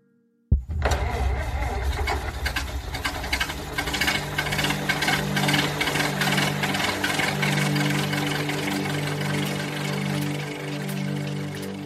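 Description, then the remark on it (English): An early automobile's internal combustion engine kicks on abruptly and keeps running loud, a steady rattling, chugging drone with sputtering clatter that lasts the whole time. “At almost the same time, the first automobile with an internal combustion engine was invented.”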